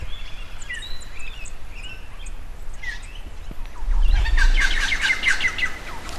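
Harsh, rapid 'chuck chuck' calls of a red wattlebird burst out in a loud cluster near the middle, over fainter chirps and whistles from other birds, with a low outdoor rumble underneath.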